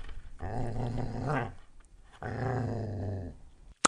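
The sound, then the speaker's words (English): A dog growls in two sustained, rumbling bursts of about a second and a half each, separated by a short pause, fairly loud, ending with a brief sharp click. “And let me see, before we actually can give you the puzzle, we have to see if we can actually get the sound away from the dog.”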